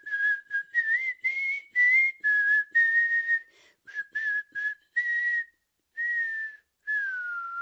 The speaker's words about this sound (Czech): Haha, tak pa, pískám.